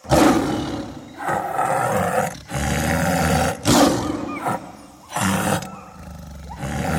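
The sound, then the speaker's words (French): A lion roars loudly in a series of deep, rumbling bursts separated by brief pauses, each roar rough and resonant with no voices present. “Et le lion?”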